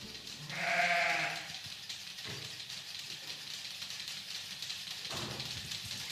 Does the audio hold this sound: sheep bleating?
yes